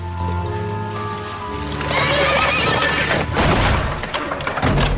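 A horse in a barn, startled by a woman walking in carrying a hoe, lets out a loud whinny that trails off, followed by stamping hooves and a clattering commotion as the animal shifts about restlessly.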